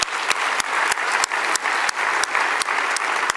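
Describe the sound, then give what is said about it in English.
Steady, loud applause from a convention audience for the authors of a research paper on South African unit trust performance, many hands clapping in a dense continuous wash with a few sharper claps standing out at regular intervals; no voices. “So when it comes to the, so actually let's just give them a round of applause.”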